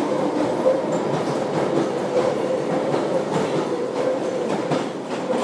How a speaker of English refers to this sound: That was quite a musical train. It was like yup yup yup yup yup yup yup yup yup yup. It was quite percussive.